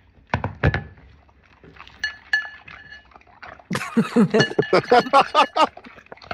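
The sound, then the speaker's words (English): A couple of sharp clinks of dry dog food hitting the bowl of a dog named Scout, a quieter pause, then a burst of loud, rhythmic, wet slurping and chomping as Scout eats eagerly. “Hopefully, no one's nauseated by that sound because he is just slurping it up and going to town.”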